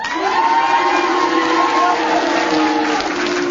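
A studio audience erupts in a loud, continuous mix of cheering and booing as it judges whether Tony Hawks is a sex symbol, many voices shouting and jeering together at once for several seconds without letting up.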